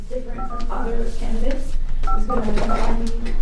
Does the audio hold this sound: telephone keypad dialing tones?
yes